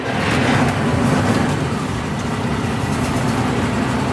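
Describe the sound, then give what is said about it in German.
A historic vehicle's engine is started and runs loudly, a dense, steady low rumble with a rough mechanical rattle over it, holding an even level throughout with no voices. “So, dann Motor, jetzt könnte ich den Rückwärtsgang einlegen und dann könnten wir auch rausfahren, wenn wir das wollen.”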